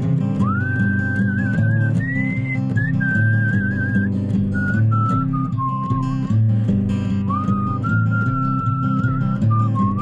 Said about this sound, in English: Whistle for me now